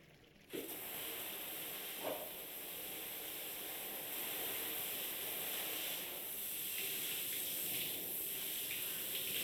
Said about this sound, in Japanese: それじゃあシャワーで流していくよ。